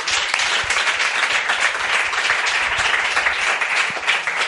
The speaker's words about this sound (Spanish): Pues este aplauso es para toda la banda de 21.